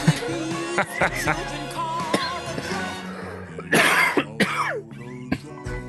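Several harsh coughs and throat-clearing bursts break out in quick succession, loud and rough, over a steady tonal background hum.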